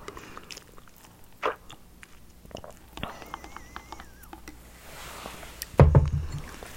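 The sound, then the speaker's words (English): Mouth sounds of someone sipping sea moss and mint tea: a few soft slurps and wet clicks, then a louder gulping slurp near the end, with no talking. “Hold on, let me sip my sea moss.”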